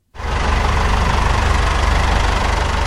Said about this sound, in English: Another tractor rolls up to the weighing bay loaded with olives. I am at a processing factory in a village called Arajal, just outside the city of Seville in the south of Spain.